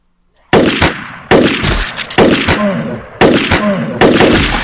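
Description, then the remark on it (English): Video game assault rifle gunfire from the player's weapon in five loud, sharp bursts at uneven intervals, each leaving a harsh, noisy tail before the next volley. No one speaks. “Not back to it because I haven't really used it yet, but I'm gonna use my assault rifle for a minute.”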